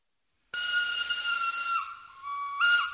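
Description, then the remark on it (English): A station master blows a railway whistle: one long, shrill blast lasting a couple of seconds, dipping slightly in pitch partway through before rising again near the end, loud with no voices. “But at that moment, the station master blew his whistle.”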